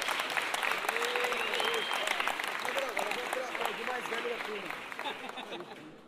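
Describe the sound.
Sustained audience applause, a dense wash of many hands clapping steadily for about six seconds and fading slightly at the end, with voices calling and chattering underneath.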